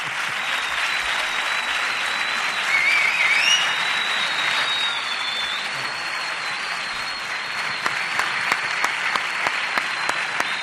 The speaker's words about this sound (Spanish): Si a mí me han aplaudido así, al director general, ¿cómo lo tenéis que aplaudir?